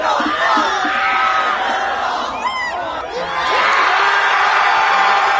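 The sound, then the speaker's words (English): A crowd of hundreds in New York City cheers and shouts wildly as a man finishes eating the last cheese ball, a dense wall of overlapping voices with whoops and high-pitched yells rising above it, sustained without a break. “has finished the last cheese ball, and the crowd goes wild.”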